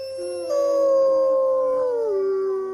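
Several wolfdogs howl together in long, sustained, overlapping tones that slowly glide downward, a loud chorus lasting a few seconds with no talking.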